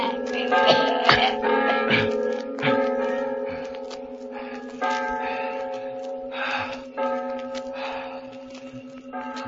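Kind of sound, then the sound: signal or alarm, church bells ringing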